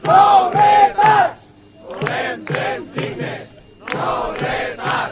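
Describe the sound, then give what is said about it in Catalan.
About 200 protesters at Móra la Nova train station chant the slogan "Volem trens dignes!" in unison while blocking the R15 line on a Saturday morning, loud bursts of shouting voices repeating in a steady cadence with brief pauses between phrases. “És un dels àudios que ens deixa aquest cap de setmana el d'aquestes 200 persones que es van concentrar el dissabte al matí a l'estació de tren de Móra la Nova per tallar la via a la R15 durant 20 minuts aturant un tren de passatgers”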